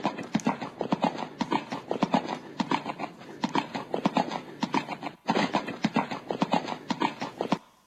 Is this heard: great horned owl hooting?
no